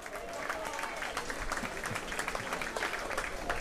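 An audience applauds the organizer, M. Karl Babin, steadily, a dense wash of many hands clapping at once, sustained and fairly loud throughout without pause or voices standing out.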